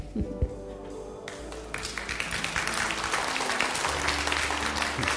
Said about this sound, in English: But as much as I feel it, thanks for clapping. I mean, that's cool.